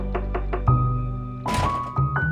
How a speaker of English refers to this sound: Just before a fight could break out between the siblings, Elizabeth heard a pounding at the door.